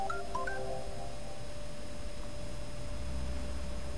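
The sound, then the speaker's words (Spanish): A quick run of telephone dialing tones beeps out at the start as a dropped call is redialed, then fades into a steady hum and line noise with no one speaking. “Hay que tratar de recuperarlo al ver qué le pasa a ese teléfono que no está saliendo directamente.”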